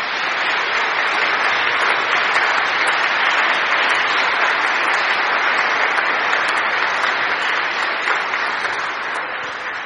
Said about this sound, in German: Nochmal ein herzliches Dankeschön und einen Applaus an euch.